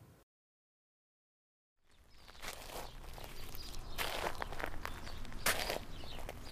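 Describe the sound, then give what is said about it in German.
Boots crunch over a gravel path leading out of a forest after a short silence, a steady gritty scraping with a few sharper, louder footfalls standing out at irregular intervals. No one speaks. “Knirschend bahnten sich Lennarts Stiefel einen Weg über den mit Schotter ausgelegten Pfad, der aus dem Wald herausführte.”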